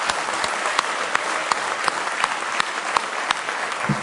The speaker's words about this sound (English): Let's give him one more hand clap of praise this morning.